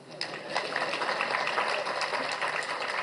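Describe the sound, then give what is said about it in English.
Steady applause from an audience at a speech fills the whole stretch, a dense crackle of many hands clapping at once with no single rhythm and fairly even loudness throughout. “Yes, you can applaud.”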